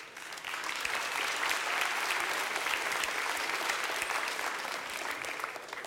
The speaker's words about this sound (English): Great, so let's give a big round of applause to our hiders. And a big round of applause to our seekers who very ably operated our system.